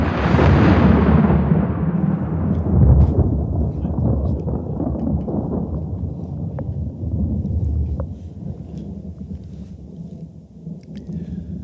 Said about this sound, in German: Also, das ist mal wieder die Geistertaschenlampe, die man da hört. Sie kündigt sich mit diesem Donner an und dann geht es los mit dem Beleuchten.